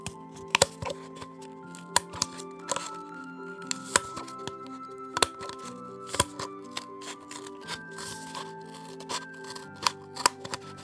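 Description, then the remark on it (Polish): Scissors snip off the rolled-over top rim of a paper cup in a series of sharp, irregular crisp cuts, with soft steady background music underneath. “Weźcie papierowy kubeczek i odetnijcie od niego sam rant, czyli ten wywinięty u góry brzeg.”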